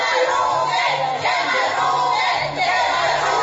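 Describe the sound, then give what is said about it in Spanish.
A crowd of supporters of Bogotá mayor Enrique Peñalosa shouts and yells at workers of the Bogotá telecommunications company, a continuous, loud clamor of overlapping voices, sustained for the whole stretch without a break. “Seguidores de Peñalosa les gritaron.”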